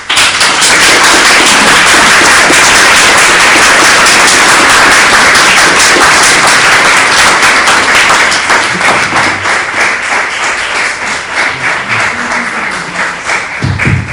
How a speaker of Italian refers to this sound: Di là continuano a applaudire, ecco, benissimo, mi avete anticipato.